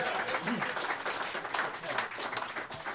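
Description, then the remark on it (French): Steady audience applause for the host of a Christmas show, a dense wash of many hands clapping at once with an even, sustained loudness for a few seconds, with a faint voice briefly audible beneath it. “Encore une fois, une bonne main d'applaudissements, s'il vous plaît.”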